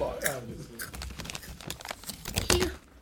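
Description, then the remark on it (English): A chip bag crinkles and rustles in irregular bursts while someone crunches chips with a dog, with sharp crackling snaps throughout and a brief voiced sound at the start. “Eating chips with the dog.”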